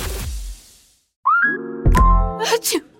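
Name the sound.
sneeze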